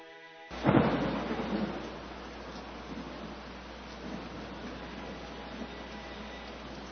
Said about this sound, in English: It's raining, Grandpa, and we brought the motorcycle.